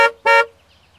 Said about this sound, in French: Le klaxon, ça fait comme ça, voyons.